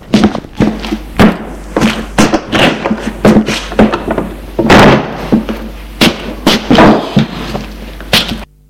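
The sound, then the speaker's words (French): A schoolbag is set down in a bedroom amid a busy string of thumps, soft thuds and clunky handling knocks, irregular and fairly loud, with rustling between them and no talking. “Pour rentrer chez lui, il va poser dans sa chambre son cartable.”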